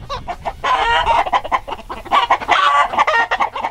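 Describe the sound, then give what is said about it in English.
Several chickens cluck and squawk continuously, a busy, overlapping chorus of short calls, fairly loud, with no voices or other sounds. “we're talking this hour about chickens, descendant of the dinosaur, a cultural staple in sport, religion, and more, and trying to break into the conversation behind me.”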